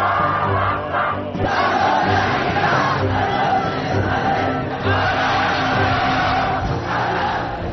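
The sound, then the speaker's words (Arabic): A large crowd shouts a slogan in unison, the chant rising and falling in steady rhythmic bursts, loud and dense, with many voices blending into a continuous roar throughout. “بل رب العظيم لو نطلقها نحن الآن في هذه الجاعة ستكون هذه المدرسة وتبقون أنتم أول من صرخ هذه الصرخة التي بالتأكيد بإذن الله ستكون صرخة ليس في هذا المكان وحده بل وفي أماكن أخرى، وستجدون من يصرخ معكم إن شاء الله في مناطق أخرى.”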